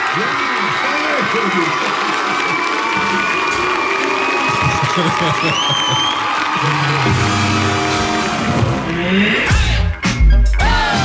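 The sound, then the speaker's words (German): A loud applause and cheering sound effect on the Radio 1 music review show Soundcheck: a dense crowd clapping and whooping for about nine seconds, with a rising whistle midway, then ending abruptly in a few heavy thumps. “Applaus, du hast alle Knöpfe gedrückt gekriegt.”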